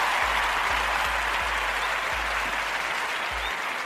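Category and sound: crowd, applause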